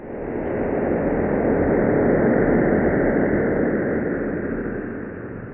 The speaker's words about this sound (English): And there was a sonification, turning the image the EHT collected into sound. I want to play a selection of this and have you tell us what we're hearing.